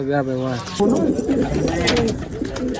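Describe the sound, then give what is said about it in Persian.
Pigeons cooing on a rooftop in Kabul, soft throaty warbles repeating over a steady outdoor background, with a voice briefly audible at the start. The pigeons are kept by a 17-year-old pigeon fancier. “هر روز صبح برای تماشای پرواز کفترایش در آسمان کابل بالای بام می آید.”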